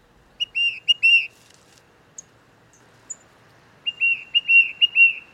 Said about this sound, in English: It turns out that the tufted titmouse, a small gray songbird, is often the one leading the flock.